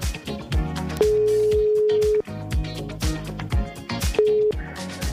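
An outgoing telephone call placed by the radio show Morgongänget on Mix Megapol in Göteborg rings out: a long steady ringback tone, then a shorter one a few seconds later, sounding over a loud, rhythmic music bed with no talking.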